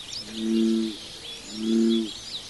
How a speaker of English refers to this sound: But Brunswick's love of birds has not gone away, and he's thrilled to see them returning to their marsh home.